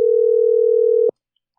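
A single steady electronic ringing tone from an outgoing WhatsApp call, a clear, loud, even hum lasting about a second before cutting off into silence. No voices.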